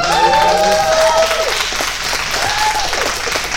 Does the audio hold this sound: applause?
yes